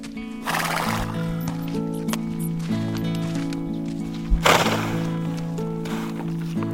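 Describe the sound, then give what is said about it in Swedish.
A mare that has been grazing alone under the stars neighs and whinnies with long, wavering calls outside a tent, wanting to come in, while hooves stomp and clop heavily on the ground, a couple of sharp thuds standing out amid the steady commotion. “Det är bara hästen som vill komma in, säger Bubblan.”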